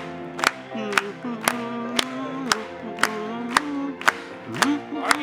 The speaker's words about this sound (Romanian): Și când căci liber sunt, hai să aplaudăm lui!